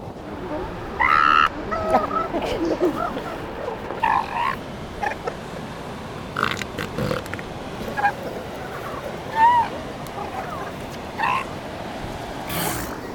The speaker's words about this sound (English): Voice and scent help the female find her pup in the crowd. Listen for the high voice of the pup and the snorting roar of its mother.